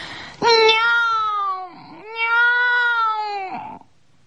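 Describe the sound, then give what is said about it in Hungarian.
A tabby cat yowls loudly in two long, drawn-out cries, each a sustained wavering wail with a rich harmonic tone, separated by a brief dip before the second call. “A baj tehát egy kicsit a vadászást, fölszegte a fejét, és nagyot kiáltott.”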